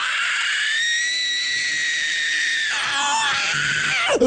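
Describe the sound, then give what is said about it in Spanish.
A human voice lets out a long, loud, sustained scream, wavering and slightly strained, then breaks into a rougher, fluttering cry before cutting off abruptly, imitating a vulture screaming. “El sopilote se fue a su cabañita, cerró puertas y ventanas y se puso a gritar. Gritó y gritó.”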